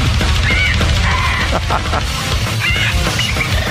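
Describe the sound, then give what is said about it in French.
Harsh, screechy parakeet squawks, the bird singing the vocals of a thrash metal song, cut in every second or so over loud, dense thrash metal, with pounding drums and distorted guitars filling the whole clip. “Donc, c'est une perruche qui chante du trash metal.”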